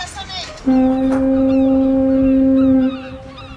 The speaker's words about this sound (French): Il te ressemble car on a mis en place une sonnerie spéciale. Elle a été conçue pour toi. En ton honneur, la fin des cours rime avec des cris de mouettes et des cornes de bruit.